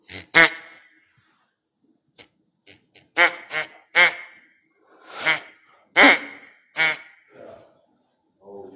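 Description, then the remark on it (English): A decoy duck call is blown, sounding a run of loud, nasal fake quacks in an uneven rhythm, with a few soft clicks between them and no talking. “A decoy duck can fool other ducks. He can fool other ducks. He has a fake sound.”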